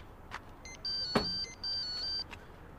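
A phone rings with a steady high electronic tone in two long bursts separated by a short gap, with a sharp click between them over a low background hum.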